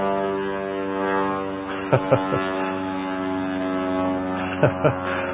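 A steady, droning engine hum with a rich low harmonic buzz from an airplane flying over a town with a local airport, holding level throughout with a few sharp knocks breaking through.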